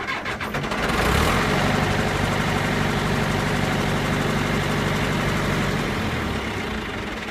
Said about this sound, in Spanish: Sí, sonido de tractor similar al de nuestros mayores en el campo y es el sueño de muchos peques de la casa,